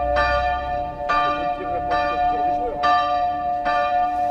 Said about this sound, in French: D'une heure, la cloche sonnait. Quelques heures après, la cloche sonnait toujours. Jusqu'à la 11e heure, où enfin la cloche a rendu l'âme, à 10h du soir.